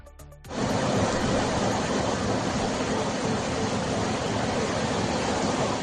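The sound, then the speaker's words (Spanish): Loud, steady roar of water rushing at 40 cubic metres per second through the canal linking the Entrepeñas and Buendía reservoirs in Spain during a water transfer, kicking in abruptly after a brief quiet moment and then holding a dense, unbroken wash of noise with no voices. “Por el canal que une ambos pantanos está discurriendo una lámina libre de 40 metros cúbicos por segundo.”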